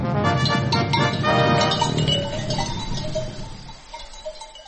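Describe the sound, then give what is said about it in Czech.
A flock of sheep on pasture by the village of Hrastićevo on a sunny autumn morning, their neck bells clinking and jangling steadily amid scattered bleats, the clamor dense at first and then thinning out as it fades slightly. “Očekuje na sunčano jutro na pašnjacima sela Hrastićevo, gdje nas očekuje Ahmed s ovcama.”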